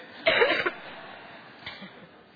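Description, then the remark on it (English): A person produces a harsh, staged cough, one rough burst lasting about half a second, followed a moment later by a much softer, brief second cough against a quiet background. “And then she coughed, an awful cough.”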